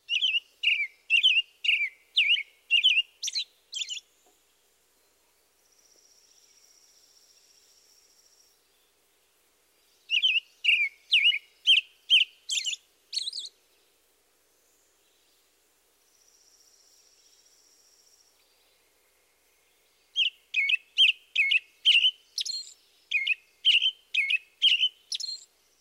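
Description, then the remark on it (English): A robin sings in three bursts of quick, warbling phrases, each lasting a few seconds with pauses between, while a thin, steady high buzz fills the gaps. “Now the robin.”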